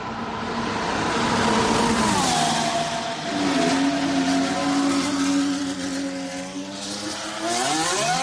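The engine of Fernando Alonso's Renault RS20 Formula 1 car at the Circuit de Barcelona-Catalunya screams and revs, its high whining pitch rising and falling in smooth harmonic sweeps, holding loud and steady throughout with no voices.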